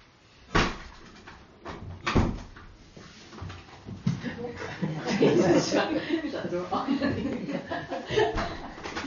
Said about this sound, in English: Just shut the door, maybe.